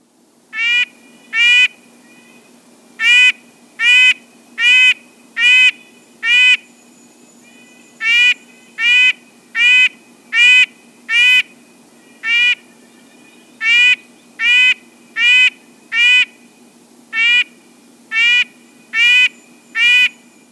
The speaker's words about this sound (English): Perhaps you've heard a red-breasted nuthatch singing its monotonous honking song all day long.